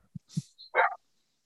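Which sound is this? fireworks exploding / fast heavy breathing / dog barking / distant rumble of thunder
dog barking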